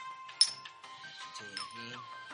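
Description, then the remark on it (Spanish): A bright glass clink rings out in a toast, followed by a few more chiming taps of glasses touching, with faint murmuring voices in the background. “Bueno, un brindis. Venga. Aquí.”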